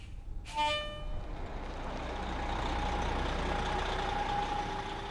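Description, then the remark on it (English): A large public bus idles at Eldora, waiting to take out-of-staters down to Boulder, with a steady low engine rumble after a short, sharp burst of air-brake hiss near the start. No one speaks. “A public bus waits to take out-of-staters down to Boulder.”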